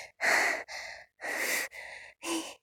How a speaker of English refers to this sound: I can't words. I can't words. You're gonna have to put up with me breathing and moaning a little.